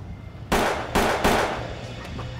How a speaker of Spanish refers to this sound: Uno disparó tres veces y salieron huyendo. Los disparos se oyeron en todo el vecindario.